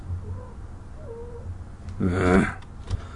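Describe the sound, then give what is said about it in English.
A female cat lets out a single loud, drawn-out yowl, wavering and harmonic, like a cat in heat, after a couple of faint, low mewling sounds over a quiet background hum. “as every 4 minutes or so, my smooth, luscious voice just turns the cat on, and then she's like, let's have intercourse, and I'm like, no, sweetie, I love you too much,”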